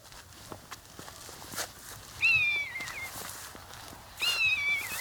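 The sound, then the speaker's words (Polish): Two drawn-out, mewing calls of a common buzzard, a bird of prey, in farmland with fields, each a high, wavering cry that slides downward in pitch, separated by a short pause over faint background rustling. “To chyba najchętniej odzywający się ptak drapieżny, jeśli chodzi o Polskę, znany z przeciągłego okrzyku, można tak to nazwać, lekko opadającego, który niesie się daleko, daleko.”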